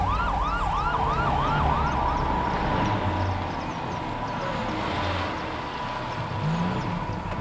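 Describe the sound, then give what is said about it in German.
An approaching ambulance's siren wails in quick rising-and-falling sweeps, then settles into a steadier tone, heard over a constant rumble of road traffic with no one speaking. “Der Krankenwagen kommt. Endlich.”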